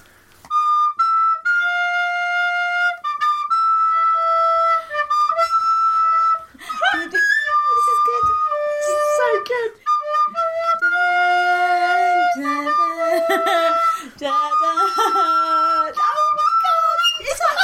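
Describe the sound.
A shrill, very cheap recorder plays a bouncy rave anthem melody of held and stepping notes, loud, with laughter and voices breaking in over the second half.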